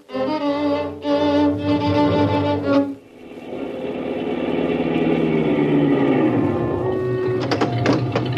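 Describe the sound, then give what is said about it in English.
A car engine runs with a loud, steady droning hum, then shifts into a rougher, broader roar that rises and settles. No one speaks. “Keep that motor running, I'll be right back.”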